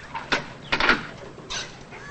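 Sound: door being opened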